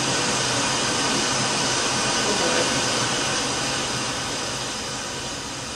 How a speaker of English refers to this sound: Oh, that's what he wanted to hear, the sounds of the waterfall. 8 hours of waterfall. 8 hours of what? Waterfall. Oh, wow. White noise.